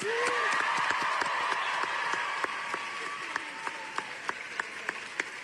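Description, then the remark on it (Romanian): A crowd of students at George Washington University in Washington, D.C., applauds and cheers Greta Thunberg as she receives an Amnesty International award; dense clapping with high whoops and shouts at first, then thinning to scattered individual claps toward the end. “Luni, Thunberg a primit un premiu al organizației Amnesty International la Universitatea George Washington din capitala Statelor Unite, unde a fost întâmpinată cu ovații de studenți.”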